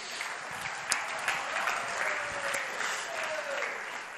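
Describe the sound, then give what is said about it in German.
A crowd applauds steadily, a dense wash of many hands clapping at an even, sustained level for a few seconds, with a faint whistle-like tone rising through it near the end. “Ein Applaus dafür.”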